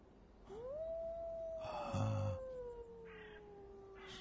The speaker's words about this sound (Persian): داره نگات میکنه، بیقراره، داره دنبال جفت میگرده. تو از کجا میدونی؟ از زوزه هاش. اون که زوزه نکشه، حالا میکشه.